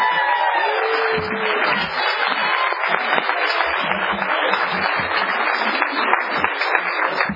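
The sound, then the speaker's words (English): Steady audience applause at an alcoholics' meeting, for a speaker who has just finished sharing, fills the whole stretch, a dense wash of many hands clapping at an even loudness, with a brief whistle-like tone near the start. “give Elliot one more round of applause.”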